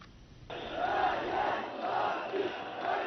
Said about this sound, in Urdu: خبروں میں کہا گیا ہے کہ جمعرات کی رات ایک بار پھر مظاہرین استنبول کے تقسیم اسکوائر پر جمع ہو گئے اور انہوں نے حکومتی پالیسیوں کے خلاف نعرے لگائے. مظاہرین وزیر اعظم اردوغان کے استعفے کا مطالبہ کر رہے تھے.